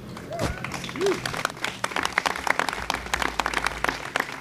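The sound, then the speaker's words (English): An audience at a presentation of PSTA's new all-electric bus in Pinellas County bursts into sustained applause, dense overlapping claps rolling steadily for several seconds, with a couple of brief whoops near the start. “I was going to say please clap, but I probably shouldn't do that.”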